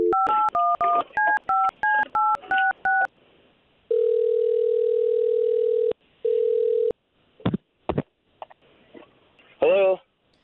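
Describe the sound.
A rapid run of about ten touch-tone beeps as a phone number is dialed to call a man, then a long steady ringing tone with a short second burst, some clicks, and a brief voice at the end.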